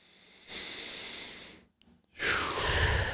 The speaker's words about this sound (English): Or we could right now, like, actually consciously choose and take in a breath together.